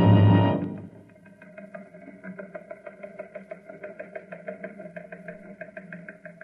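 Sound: car engine running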